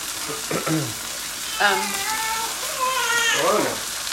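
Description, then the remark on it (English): Zucchini sizzles steadily in a hot pan, a continuous hiss and crackle of frying, with a few brief meow-like voiced sounds rising over it. “There's a beautiful sizzling sound of zucchini.”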